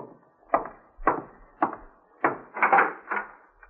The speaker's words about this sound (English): And I'm getting cleaned up before going out to meet my FBI contact, but I'm interrupted by a knock at the door.